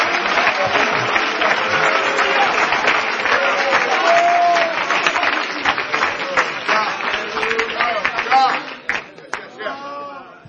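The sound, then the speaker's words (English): An audience claps hands to worship the Lord together in dense, sustained applause, with voices calling out and speaking over the steady clatter, which thins out near the end. “Oh, would you clap your hands and let's worship the Lord together.”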